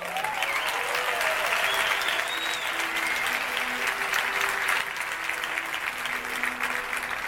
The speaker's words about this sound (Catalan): Lo primer, això és un iPad, un fort aplaudiment per a Steve Jobs.